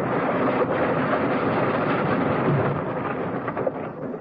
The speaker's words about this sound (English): The plane swooped down lower, lower. Suddenly, metalwork and fabric tore and twisted and snapped.